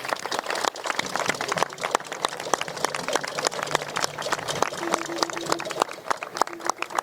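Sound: audience applause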